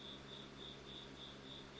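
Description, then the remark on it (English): A single cricket chirps steadily inside a studio, its thin high-pitched trill repeating in regular pulses over a low hum, moderately quiet, with no one speaking. “There's a cricket in the studio.”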